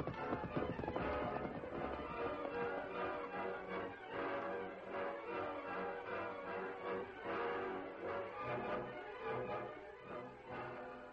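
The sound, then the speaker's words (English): Horse hooves clip-clop in a steady, brisk rhythm, fairly loud, continuing for several seconds with no one speaking. “Come on, turn your horse around.”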